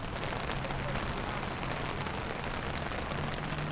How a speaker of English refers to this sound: Last Thursday, outside of HealthRight Wheeling, the skies opened and it poured.